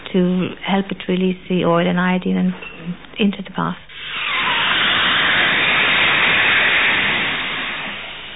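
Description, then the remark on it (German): A person talks briefly, then a loud, steady rush of hot steam hisses continuously for several seconds, a broad airy roar that holds without pause, as freshly picked seaweed is heated with hot steam before a seaweed bath. “In die Wanne wird dann noch ein Eimer Seetang gekippt, der morgens frisch gepflückt und vor dem Bad völlig naturbelassen mit heißem Wasserdampf erhitzt wird.”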